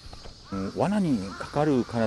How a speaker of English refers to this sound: and we're picking our way amongst the greenery, and we're going to see the crow traps the government's been using to try to battle the crows.